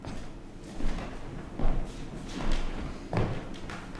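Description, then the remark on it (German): Someone comes in through a door: a handful of dull, irregular thuds and bumps spaced about a second apart, with no one speaking. “So, hier kommt, glaube ich, jemand zur Tür hinein.”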